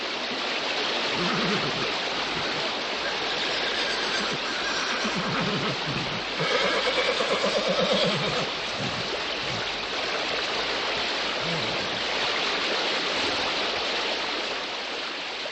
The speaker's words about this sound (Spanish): Iba montado en un caballo, y en cierto momento el animal resbaló, y la veloz corriente arrastró al caballo y al jinete.